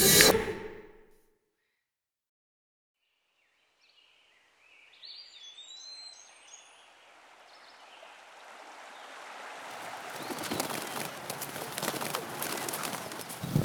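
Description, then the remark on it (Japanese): After a short stretch of silence, birds chirp and sing softly in a forest, their calls gradually giving way to a steady rushing wash of water-like ambience that grows louder. “森の匂いが落ち着くし、鳥さんたちも歌ってるし。”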